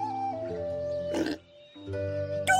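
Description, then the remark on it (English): Pigs oink and grunt in a steady, nasal drone, broken by two short, harsh squealing bursts before trailing off into a brief lull and returning. “Later, pigs.”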